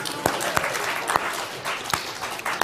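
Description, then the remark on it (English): An audience claps steadily for a few seconds, a dense crackle of many hands with a few sharper, louder claps popping out of the wash, and no voices, as a round of applause for the placenta. “Have a round of applause for the placenta.”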